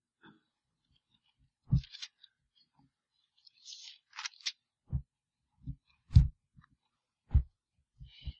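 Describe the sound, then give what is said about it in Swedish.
Soft handling noises: a few papery swishes and rustles mixed with muffled thumps and light taps as pages are leafed through at an unhurried pace, turning on to Second Thessalonians chapter 2, with no one talking. “Vi bläddrar vidare.”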